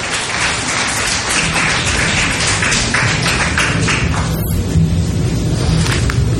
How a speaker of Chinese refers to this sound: 我们请今天要受浸的弟兄姐妹可不可以起立，你们现在可以去预备预备受浸。我们给一点掌声好不好？